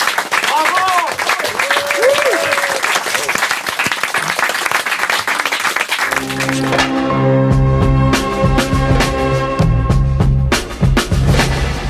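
Loud audience applause with scattered whoops and cheers fills the first half, then cuts to an upbeat music jingle with a steady beat and bass.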